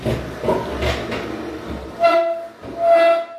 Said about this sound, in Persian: میزم رو جابجا کردم، میذارم روی دوربین خود لپتاپ.